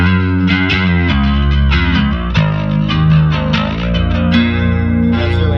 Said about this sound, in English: Like, so this is our clean. And we're in a cave, so you're hearing a little reverb. But, like, you know, this UAD chorus.